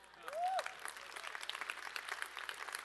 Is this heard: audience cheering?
yes